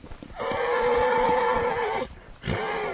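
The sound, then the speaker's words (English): Wild Retuerta horses in a nature reserve neighing loudly: one long, wavering whinny followed after a brief gap by a second, with faint low thuds of hooves underneath as they gallop free. “But he says it's worth it for this view alone, wild horses galloping free.”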